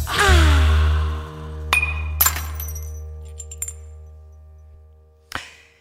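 A drinking glass smashes with a loud opening crash and fading ringing tones, then a few sharp, scattered clinks of shards follow over several seconds, ending with one last bright tinkle.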